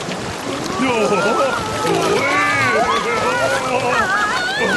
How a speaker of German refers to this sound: Das ist die reinste Wildwasserfahrt.